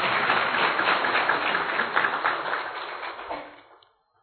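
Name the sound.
audience clapping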